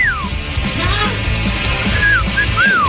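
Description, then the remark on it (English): A person whistles a short, bright melody of several sliding notes, clear, with a steady hum of background noise underneath and no talking. “All this week, we have been on a bit of a whistling kick.”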